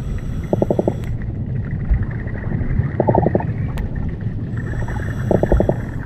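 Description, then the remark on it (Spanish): Brown meagre fish drumming underwater over a sandy seabed, recorded with a hydrophone: three short bursts of rapid knocking pulses, evenly spaced a couple of seconds apart, over a steady low rumbling background. “Se comunican los peces de los fondos arenosos, como este corballo.”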